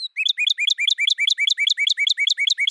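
A bird sings alone, repeating a quick, high-pitched chirping phrase over and over in a fast, steady rhythm with no voices.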